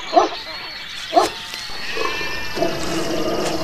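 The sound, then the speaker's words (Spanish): A dog growls and snarls in several rough bursts, about four over a few seconds, with a steady low rumble continuing between them. “¿No muerde su perro?”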